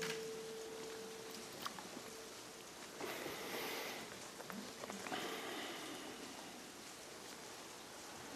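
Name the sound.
rain falling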